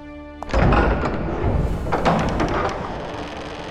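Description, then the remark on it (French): A gigantic black door is shoved open and bangs shut with a loud, deep thud, followed by a sustained rumbling, scraping resonance that lingers heavy, with no voices. “La porte se referme derrière nous avec un claquement de vue.”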